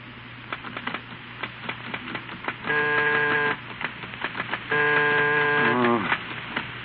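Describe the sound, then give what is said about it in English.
Rapid, clattering typewriter keystrokes in uneven bursts as Steve types his new book in the late afternoon, broken twice by a loud, steady buzzing tone, the second ending in a downward slide, over a constant low hum. “It's late afternoon, and Steve at his typewriter is trying vainly to concentrate, interrupted repeatedly by the routine of housekeeping.”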